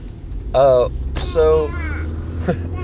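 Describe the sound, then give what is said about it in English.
Steady low rumble of a car cabin on the move, with a baby on board, fills the background, with short bursts of voice rising over it. “I have a baby in the car with me, by the way, my daughter,”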